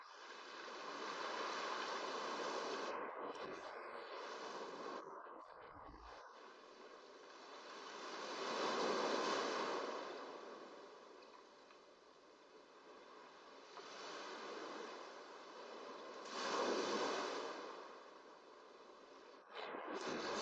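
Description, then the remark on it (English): Ocean waves wash onto the shore in slow, rolling swells, a steady hiss of surf rising and receding every few seconds, soft, with no voices. “It synchronizes with the ebb and flow of the surf.”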